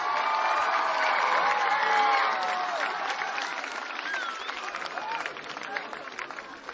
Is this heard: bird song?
no